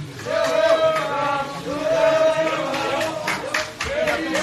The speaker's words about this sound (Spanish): Sonidos y aplausos incluso de los propios periodistas que han acudido a ese evento.